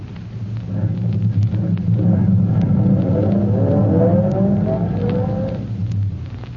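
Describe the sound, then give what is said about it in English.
A car engine rumbles and grows louder, revving slightly as the car emerges from the shadows at the mouth of an alley, then eases down and idles as the vehicle pulls up and settles. “He waves a signal with his electric torch and waits for his car to emerge from the shadows. All right, Vito. Pull up alongside that police car waiting for us there at the call box.”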